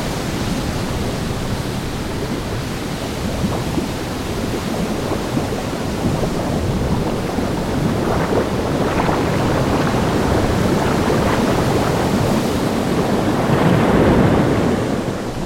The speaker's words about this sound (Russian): Вот постепенно море начинает волноваться. И через некоторое время становится таким бурным, что бьющиеся о берег волны начинают разрушать горы и все остальное.